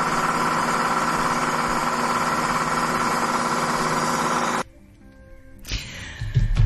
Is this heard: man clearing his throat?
no